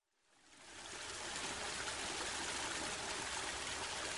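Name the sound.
river water flowing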